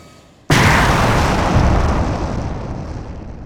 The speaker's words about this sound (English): the kangaroo ship exploded! There are dozens of escape pods!